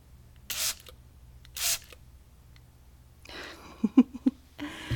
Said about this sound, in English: So here we go. Spray attack.